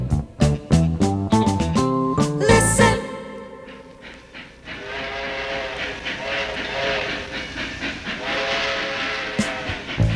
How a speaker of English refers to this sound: Of a choo-choo train.